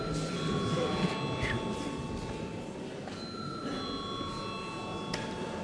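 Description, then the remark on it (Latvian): A parliament voting bell, called before a first-reading vote on a bill amending the law on taxes and fees, rings continuously and steadily for several seconds, a bright, high metallic tone held over a low murmur of background voices. “Paldies, lūdzu zvanu.”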